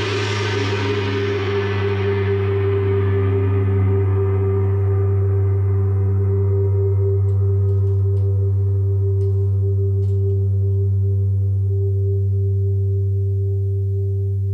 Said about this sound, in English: And of course, a big thank you to Jim Adkins from … for providing the gong.